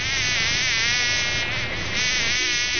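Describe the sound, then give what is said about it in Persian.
A fly buzzes loudly and continuously, its whining drone wavering slightly in pitch for the full few seconds with no other sounds. “مگس جان گاهی وقتا به خانه زورمنده و پیسداران رفتی؟”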